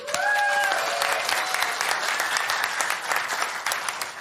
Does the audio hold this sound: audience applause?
yes